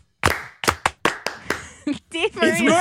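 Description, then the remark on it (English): A group tries to clap together in unison after a count-off, about six times in a quick, slightly uneven rhythm, each clap a sharp crack, then voices and laughter break in. “You guys want to try to clap one more time?”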